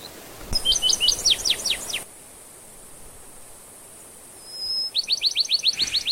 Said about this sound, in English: That's Bachman Sparrow. It may be the most beautiful of all the sparrow songs.